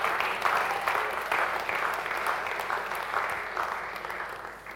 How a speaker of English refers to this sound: I won't stop until you start clapping.